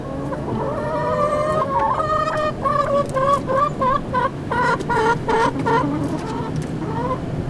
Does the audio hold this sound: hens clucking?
yes